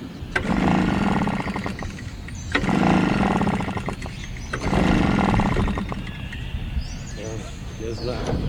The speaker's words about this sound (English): His gasoline-powered leaf blower is acting up today,